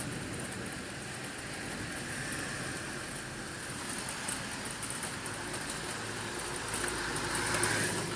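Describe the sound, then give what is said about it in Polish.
A steady hiss of rain over a low traffic rumble on a wet street, heard from a window on the street side, with a passing car swelling a little louder toward the end. No one speaks. “Nie będzie przynajmniej samochodów słychać.”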